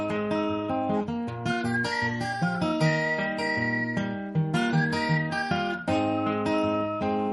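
A whistled rendition of a rock song, the bright melody line riding over full instrumental backing, playing continuously at a steady, moderately loud level with no one talking.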